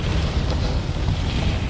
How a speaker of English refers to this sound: It's very alien, very weird. Yeah, the ship makes crazy noises. There's always a storm. And that sound of as you going like really fast and low. Oh, it's really cool.